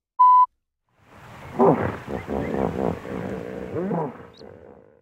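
A short electronic beep, then after a pause a hippo's deep, rumbling grunts and wheezy honks, loud, rising and falling in bursts for several seconds.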